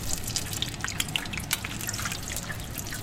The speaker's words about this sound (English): Only when the bubbles sound just right does he whisk the freshly cooked tempura out of the oil, swiftly dabs away any excess oil, and voila!